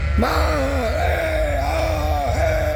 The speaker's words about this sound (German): Die Schafe beginnen zu kreischen.